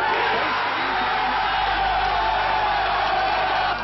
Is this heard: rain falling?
no